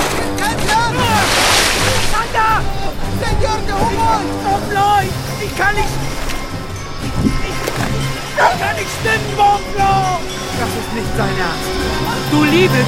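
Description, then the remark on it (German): A loud rush of wind and crashing water surges early on as a strong gust whips an overloaded boat on the Orinoco River. Waves keep slapping and churning against the dangerously rocking boat as more and more water runs in, while agitated voices and barking-like cries sound throughout. “Eine heftige Windböe peitscht auf das überladene Boot. Es schwankt bedrohlich, immer mehr Wasser läuft hinein.”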